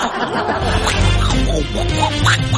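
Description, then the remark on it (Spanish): A voice does a raspy, squawking imitation of the cartoon duck Donald Duck (Pato Donald), a string of quacky garbled sounds, mixed with a bit of chuckling. “¿Te sale a ti el Pato Donald o no?”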